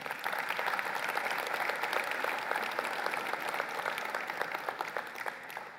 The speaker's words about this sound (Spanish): Si Dios le dio valor a su vida, regálale un fuerte aplauso.